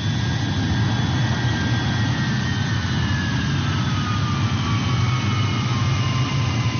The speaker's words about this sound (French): Un premier avion Hercule C-130 arrive de France avec du matériel offert par l'ONG internationale Shelterbox.